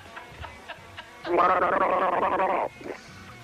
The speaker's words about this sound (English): Can we have a gargle together? Certainly. Let me get another mouth for one moment. This Waikato is lovely.